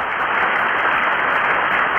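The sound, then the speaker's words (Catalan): A steady, dense applause sound effect, an ovation, fills the whole stretch, a continuous wash of many hands clapping at an even, loud level with no pauses and no voices. “Ole, quina ovació. Puja l'ovació.”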